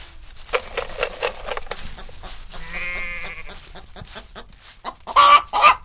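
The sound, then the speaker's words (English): Chickens cluck in quick, irregular bursts, with a drawn-out goat bleat partway through and a louder flurry of squawking near the end. No one speaks. “Take a walk in the woods and enjoy the goats and the chickens.”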